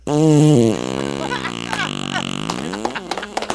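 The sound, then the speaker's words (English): A long, loud fart sound effect, starting with a strong brassy blast and then wavering and sputtering in pitch for a few seconds before trailing off in short bursts. “You'll meet the flatulent manager, Jimmy Fart, and his new discovery, Jabba the Butt.”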